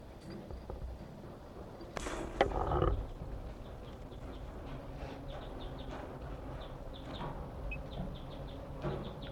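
A bird, individual number 167, gives a series of short, sharp alarm calls repeated at irregular intervals over steady outdoor background noise, with a brief louder rustling burst partway through.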